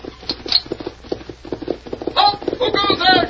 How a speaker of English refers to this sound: Lieutenant, there are your horses. They're coming at the gallop.